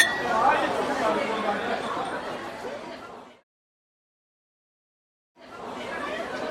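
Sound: glasses clinking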